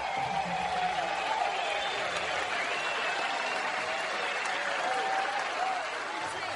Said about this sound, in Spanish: Un aplauso.